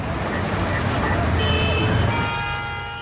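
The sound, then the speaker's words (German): Busy big-city street traffic: a dense, steady roar of engines and tires with sustained horn-like tones sounding over it, loud, easing off slightly at the very end. “Er wollte die große Stadt besuchen.”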